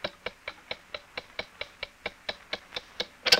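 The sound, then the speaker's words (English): A pop-up toaster's timer ticks steadily, about fifteen crisp, evenly spaced clicks, with the last one louder and sharper. No voices are heard. “The pop-up toaster went on ticking.”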